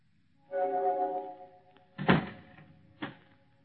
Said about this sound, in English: Closing door finishes the story.